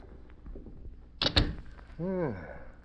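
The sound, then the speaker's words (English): A door, its lock just picked with a thin steel instrument, opens: a couple of sharp latch clicks and a thunk, then a short, wavering creak of hinges as it swings, over a low background murmur. “Open the door. All right, come on.”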